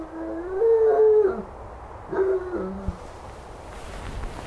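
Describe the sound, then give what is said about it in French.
A dog howls twice at 3:30 at night, a long wavering howl followed by a shorter one after a brief pause, over a quiet, faintly hissing background. “Ce chien me rend fou.”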